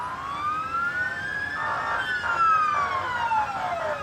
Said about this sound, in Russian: Раздалась сирена, прибыла машина скорой помощи и, раздвигая толпу любопытных, подъехала ближе к месту происшествия.